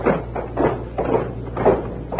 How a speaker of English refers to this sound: Just time for our closing door ceremony, a regular Friday feature here at CBS. When we remember it. There they go.